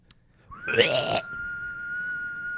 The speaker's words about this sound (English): You were whistling out your tooth. I got a lot of whistling. That one was from deep in the throat. Oh, gross. The other one was in my tooth.